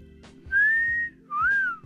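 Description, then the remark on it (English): A man whistles two long, clear notes: the first steady and level, the second dipping and then sliding down, over a faint low hum. “Just whistle. You know how to whistle, don't you, Steve? You just put your lips together and blow.”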